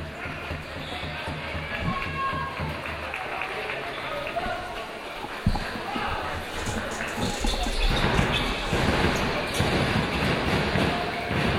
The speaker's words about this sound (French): Manqué pour le premier lancer franc du joueur de Saint-Quentin.